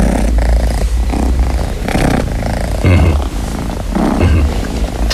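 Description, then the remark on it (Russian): A cat named Kiso purrs steadily with a deep, rumbling drone, breaking into a few short vocal trills and growly meows over the continuous purr. “Ну вот, и Кисо супер кошка.”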